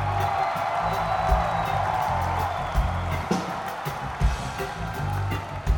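A large audience applauds and cheers steadily, a dense wash of clapping with occasional louder whoops rising out of it, continuing for several seconds at a fairly close, full volume.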